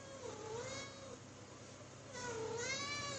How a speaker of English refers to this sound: Sorry, it's my cat now. Sorry about that.